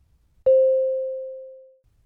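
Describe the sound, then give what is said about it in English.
A single mid-pitched electronic beep starts abruptly, then holds one steady tone that gradually fades away over roughly a second and a half, with silence before and after and no voices. “Start after the beep.”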